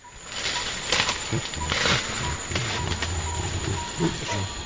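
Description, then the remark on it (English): A Western lowland gorilla in the Republic of Congo sings in low, wavering hums and grunting murmurs, rising and falling in short phrases over a steady background hiss. “That's a Western lowland gorilla in the Republic of Congo singing.”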